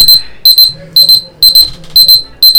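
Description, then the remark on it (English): A loud 9:30 electronic alarm beeps in quick double pulses, repeating steadily about twice a second, piercing, with a faint low murmur underneath. “Then what was the 9:30 alarm?”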